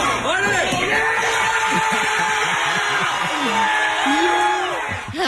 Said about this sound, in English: So then he's still crying, but he keeps going. He kicks and he kicks, and he finally breaks through the board, and the crowd goes wild.